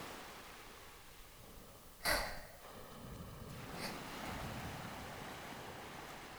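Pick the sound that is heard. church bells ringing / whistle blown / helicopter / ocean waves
ocean waves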